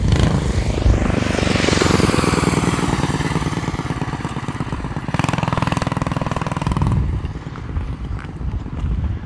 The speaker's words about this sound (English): Big guy on a little motor scooter. There's a scooter shop in town that specializes in making scooters that look like choppers. This isn't one of them, the one that this guy's riding around.